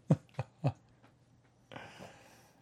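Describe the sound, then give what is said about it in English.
Three short, sharp dog barks in quick succession in the room, not loud, followed by a brief stretch of soft rustling noise. No one speaks. “Oh my god, these dogs.”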